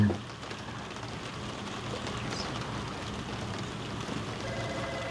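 Steady rain falls continuously, a dense, even hiss of drops spattering on surfaces, with a faint low rumble underneath and no voices.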